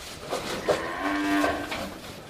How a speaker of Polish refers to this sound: W obu zagrodach można zobaczyć dorodne sztuki bydła. Opasy to podstawa tutejszej hodowli.